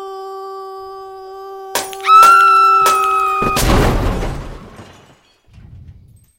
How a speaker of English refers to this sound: Three beautiful stained glass windows shattered, and a car blown up in a parking lot. Thankfully, nobody was in it.